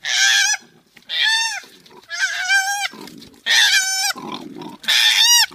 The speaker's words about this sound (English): Oh, well, I hope it was a nice koala bear, because this is what an upset koala bear sounds like.